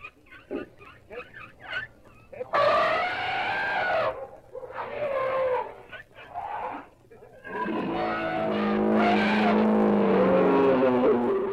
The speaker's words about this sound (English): Up the line, elephants are trumpeting as they come out of the stock cars.